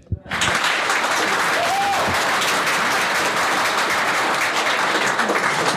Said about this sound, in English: And we just heard a magnificent round of applause and excellent questions, actually, after the session